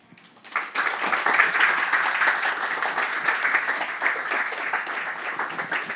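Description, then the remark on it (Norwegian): An audience bursts into sustained applause for a speaker after a talk, many hands clapping in a dense, even wash that starts abruptly after a brief quiet moment and holds steady at full strength throughout. “Det var en velfortjent applaus til Robindra”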